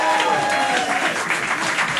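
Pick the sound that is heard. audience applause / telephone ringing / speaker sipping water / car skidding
audience applause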